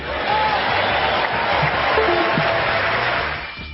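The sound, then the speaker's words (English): A large crowd cheers and whoops in a sustained, dense roar of voices, with scattered higher shouts rising above the steady noise before it tapers slightly at the end. “So, whose family was cheering for there?”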